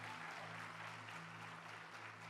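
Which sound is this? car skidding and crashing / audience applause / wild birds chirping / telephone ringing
audience applause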